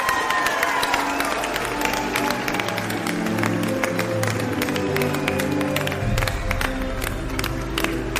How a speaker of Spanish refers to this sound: ¡Un aplauso! Para esos corredores y los portadores. ¡Adelante! ¡Un gran aplauso!